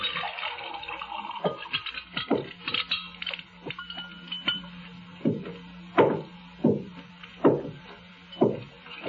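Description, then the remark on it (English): Lemonade pours from a pitcher into three glasses on a table, a gurgling trickle broken by light glassy clinks, swelling into several louder splashing surges toward the end. No one speaks. “Sister Love lifted the pitcher and began to pour the lemonade.”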